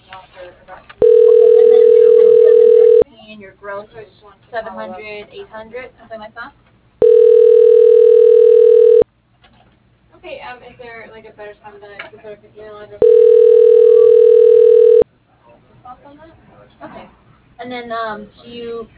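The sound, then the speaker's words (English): A telephone ringback tone sounds three times, each a steady, mid-pitched buzz about two seconds long, while a call to Utility Mapping Services, Inc. is transferred to the operator, with a recorded voice talking in the gaps between rings. “Please stay on the line while your call is transferred to the operator.”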